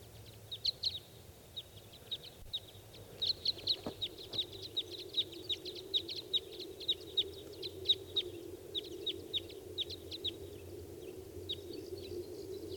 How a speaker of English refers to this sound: I hear the calls of more wild birds.